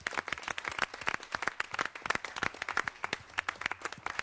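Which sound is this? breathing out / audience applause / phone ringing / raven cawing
audience applause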